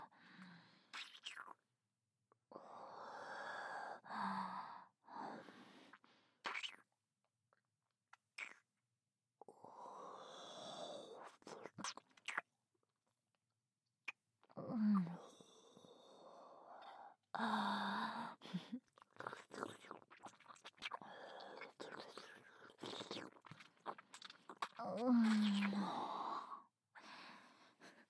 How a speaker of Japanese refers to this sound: ああ、かわいい。チューして吐息を送り込んでやる。少しも取りこぼさずに、吸い込みなさい。ほら。